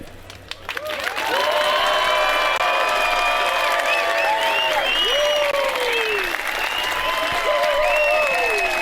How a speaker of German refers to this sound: Ihr kennt das so gleich, das Volume Rate Meter. Das seid ihr. Ich würde jetzt gleich einfach mal Folgendes sagen. Nummer 1 nach vorne. Was ist der? Ihr gebt Applaus.